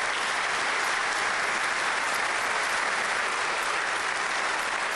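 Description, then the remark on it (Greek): Sustained applause from the New Democracy benches in the Greek parliament during the swearing-in of Mr Tasoulas, a dense steady clatter of many hands clapping at once, loud and even throughout with no voices standing out. “Χειροκρότημα. Ακριβώς, εκεί νέα χειροκροτούν. Έδρανα της Νέας Δημοκρατίας.”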